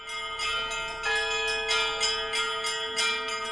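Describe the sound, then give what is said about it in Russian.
Ship's bells (rynda), installed instead of church bells at the St. Nicholas Church at the Brotherhood Cemetery in Sevastopol, struck repeatedly in a quick, uneven rhythm, each bright metallic clang overlapping the sustained hum of the previous one. No voices. “Свято-Никольский храм на Братском кладбище – единственный в Севастополе, на котором вместо колоколов установлены корабельные рынды.”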